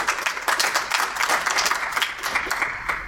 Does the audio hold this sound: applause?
yes